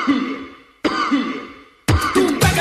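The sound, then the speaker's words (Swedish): People cough in a train carriage: several harsh coughs burst out one after another at uneven intervals, each starting abruptly and trailing off, with a quick double cough at the end. No one speaks. “Dels folk som hostar i vagnen.”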